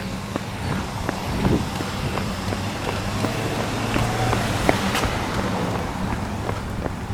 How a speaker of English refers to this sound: So I'm just in a bit of traffic here. I'll be on a neighborhood street in just a moment.